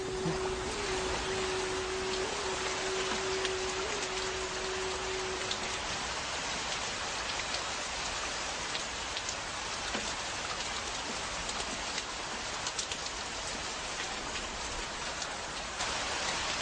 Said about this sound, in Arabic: هذا أول غيث نبوءة يوزرسيف، لم أشك أبدا في حدوث ذلك. هذا المطر يعني أن السنوات 7 من الوفر قد بدأت.